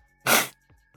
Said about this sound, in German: Ich muss mal die Nase putzen. Moment.